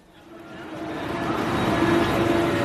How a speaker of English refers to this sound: now finally I'm catching the train. This is the train that goes along Israel's coast. I'm getting off at Caesarea.